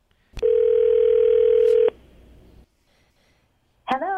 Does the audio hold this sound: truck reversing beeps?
no